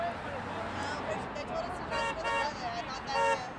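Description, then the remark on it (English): Car horns honk in a few short, brassy bursts in support of sign-holding protesters on both sides of a busy street near a shopping center and a Target. Steady street noise and a low murmur of people talking continue underneath. “And as people continue to arrive, they mingle and chat while holding signs which receive honks of support.”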